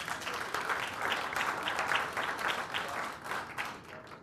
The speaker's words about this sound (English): So please give him a good virtual round of applause to start.